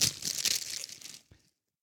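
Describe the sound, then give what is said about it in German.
Crisp crinkling of a plastic bag being handled and pulled open as a wrapped book is unwrapped, a dense burst of rustles for over a second ending with one short crackle before silence. “Es ist ein Buch offensichtlich in einer Tüte.”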